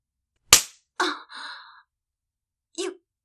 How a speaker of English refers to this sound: You just slapped my tit! Bitch!